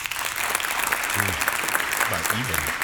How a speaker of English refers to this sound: Clap if you're attending the caucuses. Okay. Clap if you have decided to firmly back one candidate. Clap if you are undecided.